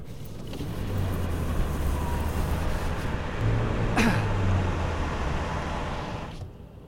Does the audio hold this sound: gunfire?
no